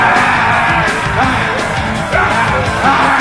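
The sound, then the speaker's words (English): A harsh, rasping screech from a mutant swamp creature rings out loud, sustained for a few seconds with wavering, strained shrieks and guttural edges, dense and unbroken with no speech. “moving to one side, finding that the ground beneath his combat boots was slippery and dangerous, giving a natural advantage to the screeching swampy in front of him.”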